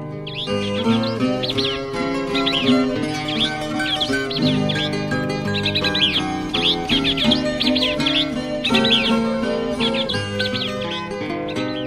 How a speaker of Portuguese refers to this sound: Entre todos, maestro nenhum faz o que fazem cantores da floresta. Eles vivem cantando eterna festa com seus lindos trinados musicais.